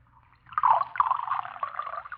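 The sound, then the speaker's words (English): Beer pours into a glass in one steady stream, beginning after a brief quiet moment and splashing and fizzing continuously to the end, with no voices. “Sergeant, you're not drinking your beer. Pour some of it in my glass.”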